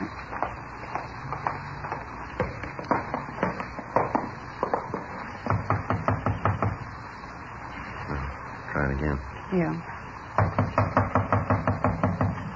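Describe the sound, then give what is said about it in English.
Several rounds of loud, rapid knocking on a door by police officers, each a quick burst of raps separated by short pauses, with a voice briefly heard between rounds. “Not answering. Come on, open up in there. We know you're in there. Come on. Open the door.”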